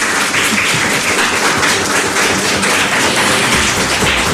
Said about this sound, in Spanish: se han venido a este edificio de usos múltiples alumnos de sexto de primaria del CEI Félix Rodríguez de la Fuente, y yo quiero que ellos mismos se aplaudan para que sepa la gente de la radio que están aquí. Venga, chicos, un aplauso.